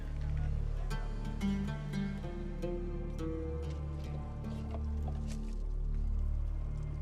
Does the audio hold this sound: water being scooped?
yes